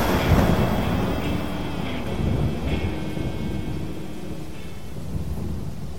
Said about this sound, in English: The lightning bolt dropped like a bomb, blasting into Black Adam with a concussive force that threw us back on our asses.